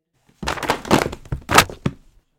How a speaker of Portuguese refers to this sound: carregava livros e casacos na sacola e aí derrubou tudo no chão.